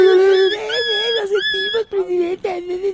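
A loud dog howl with a steady, wavering pitch, drawn out over a few seconds and broken into several swelling cries, with no other sounds around it.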